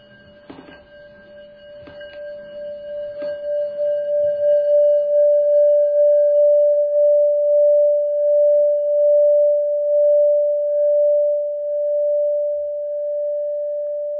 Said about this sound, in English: Now I'm going to see if I can make a sound with the gong.